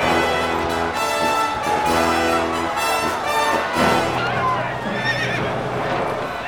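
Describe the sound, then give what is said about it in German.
A horse carrying an armoured rider to a duel in a courtyard whinnies loudly, its shrill neigh rising and wavering, while hooves clip-clop underneath throughout the few seconds. “Peter saß fest im Sattel seines Pferdes und blickte durch den dünnen Streifen seines Visiers.”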